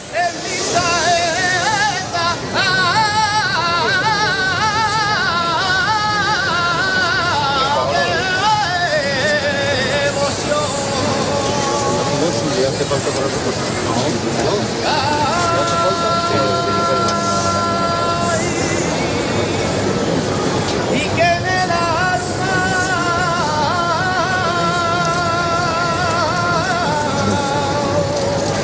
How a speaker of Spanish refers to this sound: Esta maravillosa saeta que acabas de escuchar se la cantó nuestro próximo invitado a la Virgen del Rocío en la Plaza de la Campana de Sevilla, y lo hizo además en presencia del rey. Fue un momentazo único.